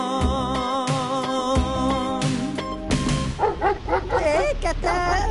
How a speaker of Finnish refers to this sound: Kepure, mikä liikkuu. Haukkuu vaan koko ajan.